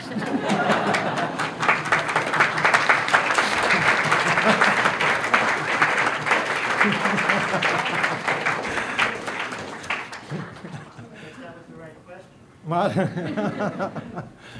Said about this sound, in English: I think there was insufficient applause.